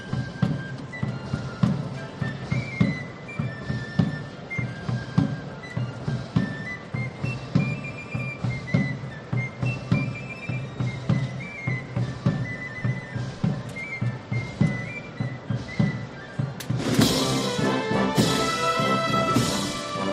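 A processional band plays a march behind the Hermandad de las Siete Palabras procession as it finishes crossing the Plaza del Duque, with brass melody over a steady pulsing beat, growing brighter and fuller with crashing cymbals toward the end. No one speaks.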